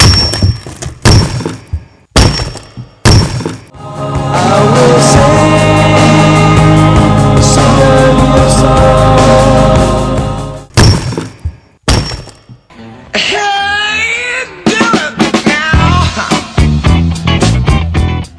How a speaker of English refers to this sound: Hey, once again, that is the sound of rock cracking right here.